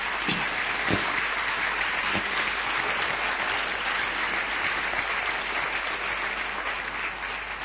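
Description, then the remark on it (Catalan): Sustained audience applause for musicians, dancers and a cellist after a performance: a dense, steady patter of many hands clapping at an even loudness throughout, with no voices standing out. “Un aplaudiment per ells, si us plau.”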